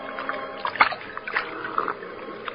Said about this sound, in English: The time, late evening. Place, a bank of the Salinas River in California. Two men scramble down the bank to the water's edge, and the larger of the two, an ungainly giant of a man, throws himself at full length and greedily drinks from the river.